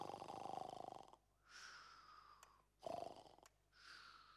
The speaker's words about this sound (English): And it was Grandpa snoring.